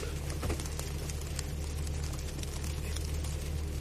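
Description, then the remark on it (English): Freezing rain ticks lightly and irregularly on the roof of a Roadtrek camper van on a cold day, a soft scattered pattering over the steady low hum of the van's idling engine, with no one speaking. “If I was to shut up, you'd probably hear some freezing rain.”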